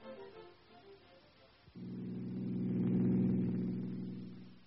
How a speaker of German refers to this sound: Das ist ein Volkswagen, ein deutscher Wagen. Tja, das ist kein Mercedes, kein Porsche. Das ist ein Volkswagen.